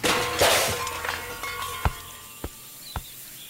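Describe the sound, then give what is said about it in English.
Toad's car careers off the road and crashes into a fountain: a loud, noisy smash, followed by three sharp, separate clanks of debris settling as the noise fades, with no voices. “Toad has crashed his car into a fountain and is lying on the floor, a glum expression on his face.”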